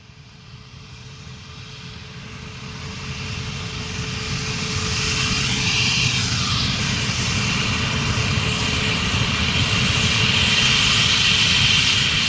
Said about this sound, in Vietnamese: Thưa quý vị, ngày 2 tháng 3 năm 1969, cách này tròn 50 năm, máy bay siêu thanh Concorde bay thử nghiệm chuyến đầu tiên, cất cánh từ đường băng 32 sân bay Toulouse, Pháp, sang Rio de Janeiro, Brazil, với một chặng nghỉ ở Dakar.